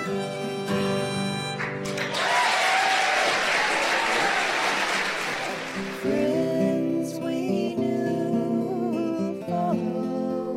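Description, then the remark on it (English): A crowd bursts into loud, dense applause with some cheering for children performing on a big stage. It swells for several seconds, then fades as instrumental music picks up over the tail of the clapping. “they were still nervous to be on the big stage and grateful for the crowd's encouragement.”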